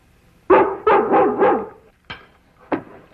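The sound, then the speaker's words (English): A dog, Lassie, barks loudly, a quick run of four bright, yelping barks followed by two more single barks after short pauses. No one speaks. “Now, Lassie's a smart dog.”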